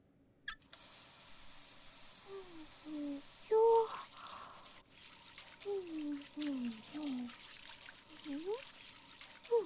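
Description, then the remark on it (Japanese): A steady spray of running water starts abruptly and pours for several seconds as a person's two hands are rinsed under a stream, with brief murmured vocal sounds underneath. “両手貸して洗い流すから。”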